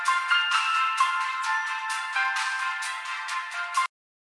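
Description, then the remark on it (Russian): A mobile phone ringtone for an incoming call about a ticket plays loudly and continuously for nearly four seconds, a bright looping melody with repeating phrases, then cuts off abruptly into silence. No one speaks. “звонит по поводу билета, купил, наверное.”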